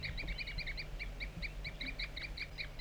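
A wild bird and another bird, 4-3, toop to each other: a rapid, steady series of short, high-pitched tooping calls, around a dozen in quick succession, over a low rumbling background with no talking.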